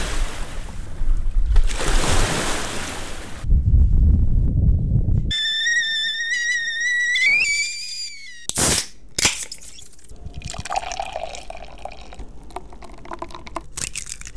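Steady rushing water of the Columbia River fills the first few seconds, a broad, loud wash of flowing current, before giving way to a series of unrelated tonal and clattering sounds; no one speaks.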